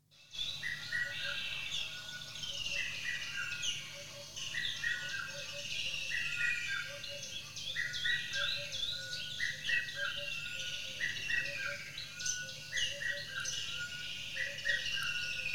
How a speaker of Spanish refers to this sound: Rasgan el cielo los gritos de los ibis y las garzas, que dejan sus posaderos nocturnos para dirigirse a sus zonas de pesca. Se escuchan abubillas, el cuclillo solitario o cuco de pecho rojo.